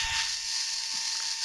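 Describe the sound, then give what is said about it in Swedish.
A steady mechanical whir from a running household appliance, with a dense hiss in the upper range and faint ratcheting clicks, holding constant throughout without any speech. “Hushållsmaskinen igång.”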